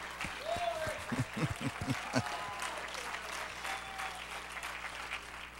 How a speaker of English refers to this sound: And let's recognize you, because this is Veterans Day. We want to give them a nice hand. And we appreciate you so very much. Oh, it's rude to sit while people are still clapping for you.